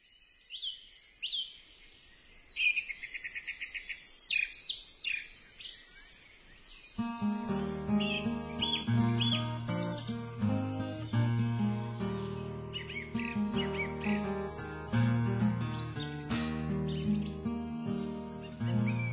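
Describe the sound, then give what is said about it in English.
Bright, chirping birdsong trills on its own for several seconds, then a gentle instrumental folk tune comes in underneath while the birds keep twittering high above the music; the birdsong is part of the recorded folk track. “And by the way, the bird song throughout these two pieces, lovely as it is not my invention, it's actually on the track.”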